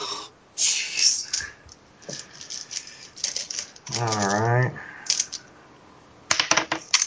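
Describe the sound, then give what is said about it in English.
A small object falls off a computer keyboard and clatters against hard plastic, a scatter of sharp taps and clicks, with a short strained vocal sound in the middle and a final burst of rattling. “Hold on, that fell off the keyboard.”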